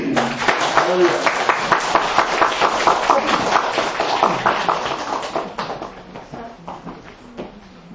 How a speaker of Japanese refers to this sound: はい、じゃあ皆さん拍手で。